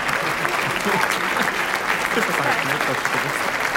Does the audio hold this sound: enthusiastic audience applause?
yes